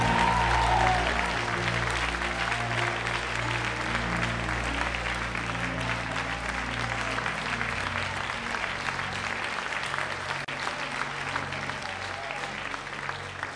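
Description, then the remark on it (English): A large church audience applauds steadily, giving Jesus a big hand clap: a dense wash of clapping that stays loud and sustained throughout, with faint voices and a low instrumental hum underneath. “Come on, give Jesus a big, big hand clap.”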